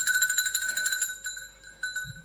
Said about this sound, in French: Ils n'entendent point. Et ma sonnette ne fait pas assez de bruit.